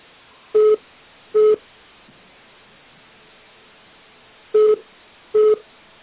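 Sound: telephone beeping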